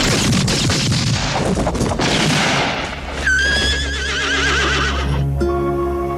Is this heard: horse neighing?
yes